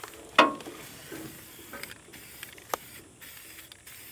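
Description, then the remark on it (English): A short, sharp hissing burst from a spray paint can, spraying onto an old piece of metal, followed by quieter intermittent spritzes and small clicks against a steady faint background hiss outdoors. No one speaks. “I'm gonna spray paint Hollyfield on this old piece of metal.”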